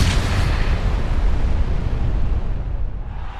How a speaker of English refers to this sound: Oh, and that explosion rocks the arena.